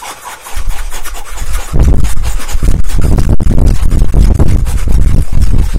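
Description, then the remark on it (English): Rapid, forceful breathing in a steady rhythm: a quick series of loud, harsh huffs, several per second, pushed through the mouth like a sawing or rasping sound, with no talking. It is the fire breath, a breathing technique. “You ever hear the fire breath?”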